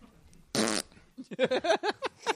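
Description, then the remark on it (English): At a press conference, a man blows a loud, buzzy raspberry with his lips, imitating a fart in one short quarter-second burst, followed by a string of choppy voice sounds. “He says he's a man, and then he's making fart noises at a press conference.”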